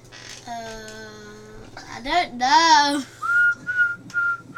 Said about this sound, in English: What are you whistling? Can you whistle? Alright, go then. What's the song? I don't know.